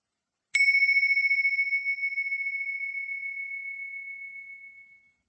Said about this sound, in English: When you hear the bells in a moment, you can get up again and get on with your day.